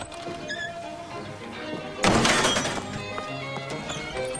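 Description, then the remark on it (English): A thrown copper saucepan misses a woman and slams into a car with one loud, sharp metallic crash, breaking out of a low murmur of background noise, followed by a ringing, rattling tail that slowly fades. “Andy stands on the porch, watching with horror as Martha throws the saucepan at Norma, missing and hitting a car.”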